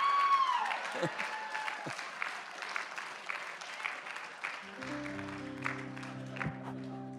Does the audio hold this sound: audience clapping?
yes